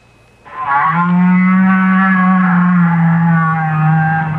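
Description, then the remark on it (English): A whale's call from deep down in the ocean: one long, loud, low moan with a rich, buzzy tone that holds a steady pitch for about four seconds, sounding much like a cow mooing, with no other sounds. “If you agreed with these guesses, you've been fooled, because each sound was made by a whale. That's right, a great big blubbery old whale just buzzing and clicking and grunting away deep down in the ocean.”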